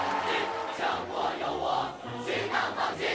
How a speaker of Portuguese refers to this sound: São cinco ou seis famílias chinesas a dar vivas